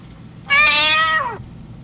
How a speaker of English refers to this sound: Did you know adult cats only meow to communicate with humans?